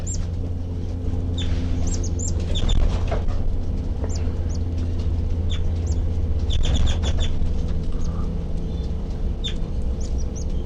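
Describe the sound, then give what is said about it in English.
Baby birds peep from a nest, recorded from right underneath it, in thin, high-pitched bursts, short cheeps clustering and pausing irregularly throughout, faint over a steady low rumble, with no voices. “The baby birds are peeping and I'm right underneath the nest.”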